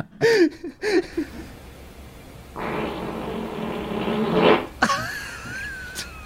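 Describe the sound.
A voice imitates a McLaren supercar engine: a few sputtering bursts, then a sustained raspy roar for about two seconds, ending in a sharp, whining rev.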